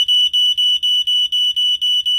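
household object, smoke alarm going off

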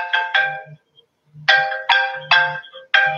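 signal or alarm, phone ringtone

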